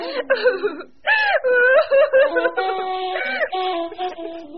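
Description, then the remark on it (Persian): A mother, deeply upset, sobs and wails loudly, her voice rising and breaking in long quivering cries with short gasping pauses between bursts, sounding like an acted, exaggerated fit of weeping. “مادر حسن اونقدر ناراحت شده بود که پاک زد زیر گریه”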